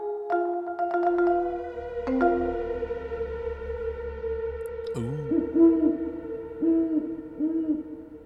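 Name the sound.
owl hooting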